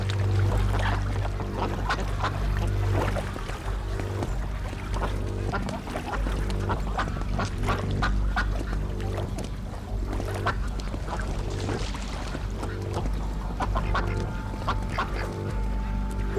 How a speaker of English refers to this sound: I crossed the road, and now I'm on the side where the inner bay is, so it's all open water as far as the eye can see, and there's just tons of ducks.